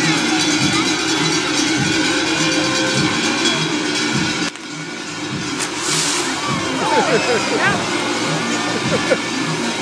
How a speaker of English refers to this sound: Fireworks, cowbells.